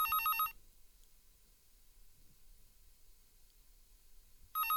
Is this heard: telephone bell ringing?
yes